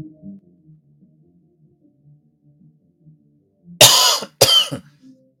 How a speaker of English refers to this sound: Yeah, sorry about the cough. Something stuck.